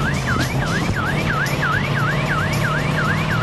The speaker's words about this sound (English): He gathers his thoughts. And he's off with the siren blaring.